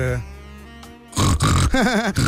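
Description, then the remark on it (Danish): A voice imitates the pig noises a woman makes when she laughs: a low hum, then loud, rough snorting grunts in quick bursts, ending in a wavering, squealing oink. “hun laver griselyd, når hun griner.”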